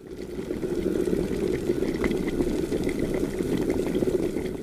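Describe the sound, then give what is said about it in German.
Water at a full rolling boil in an electric kettle, bubbles rising to the top and bursting at the surface, a steady dense roar of bubbling with scattered pops and crackles, continuous throughout, no voices. “Ja, ganz charakteristisch, wenn das Wasser dann kocht, gibt es nur noch Bläschen, die ganz nach oben kommen, die an der Oberfläche zerplatzen, und das gibt dann das charakteristische Sieden und Blubbern.”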